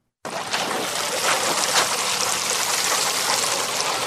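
Steady splashing of water poured onto the soil of a tree nursery bed by South Sudanese refugees and Ugandan hosts in the Nyumanzi refugee settlement, Adjumani district, northern Uganda; a continuous hiss and patter that starts abruptly and holds at an even level throughout, with no voices.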